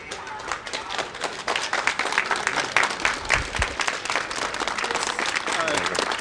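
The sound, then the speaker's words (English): A reception crowd in Dubrovnik applauds continuously for about six seconds, a dense, steady wash of many hands clapping at an even loudness, with indistinct voices mixed in beneath the clapping. “And I'm going to walk out now through the reception crowds.”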